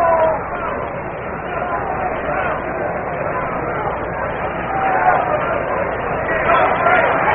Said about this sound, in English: And the crowd is buzzing, of course.